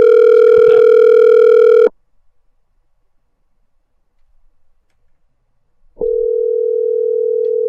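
A telephone rings on the line during a call that goes unanswered before voicemail picks up: a loud, steady electronic ring tone for about two seconds, a long silent pause, then the ring starts again. No voices.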